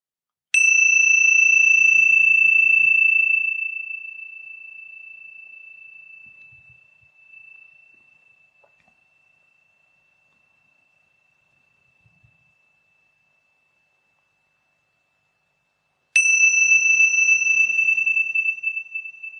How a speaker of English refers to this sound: Just noticing the movement of the sound of the bell through time.